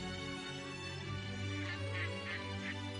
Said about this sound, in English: Can you hear the ducks?